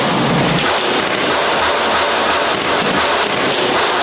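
Sustained, loud small-arms gunfire crackles in rapid bursts after an artillery bombardment, sharp reports overlapping into a dense, continuous roar with no voices, as Donbas fighters lay down heavy fire to keep separatists away from their positions.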